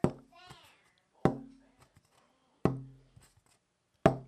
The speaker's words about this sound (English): So if you do that, you can tap it and it makes this ringing sound. So this is a piece of cherry that's, I'd say about 3/16 thick, you know, probably 8 by 20 inches long.